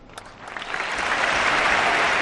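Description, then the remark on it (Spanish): A large stadium crowd of Valencia supporters roars and cheers with Valencian pride, a dense wash of voices and clapping that swells steadily louder over a couple of seconds with no single voice standing out. “Bueno, muchas lágrimas en las gradas y mucho orgullo valenciano también en los gritos que se han escuchado.”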